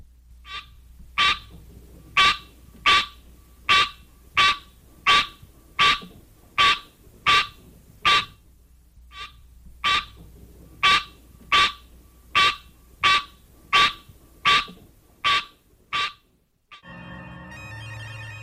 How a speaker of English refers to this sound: One parent, the green tree frog, Hyla Scenaria, has this call.